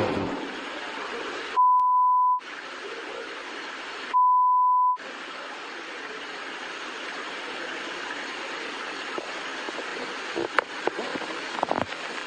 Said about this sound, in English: Make the beeps louder